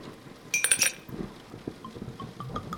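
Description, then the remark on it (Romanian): A drinking glass clinks several times in quick succession, bright ringing taps, followed by softer handling noises and faint rustling. “Uite paharul.”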